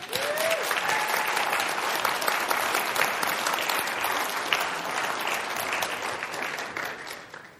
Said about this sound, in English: But they're also a little nervous, so let's clap at them.